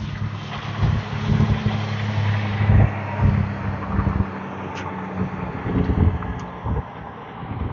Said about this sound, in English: Well, I wasn't expecting the wind.